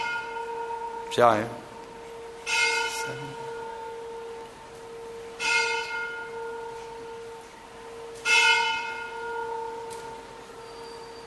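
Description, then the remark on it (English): A steady electric bell rings continuously throughout, a sustained bright tone, while a few brief bursts of voices and shuffling noise break in over it. “Okay, let's wait for the bell.”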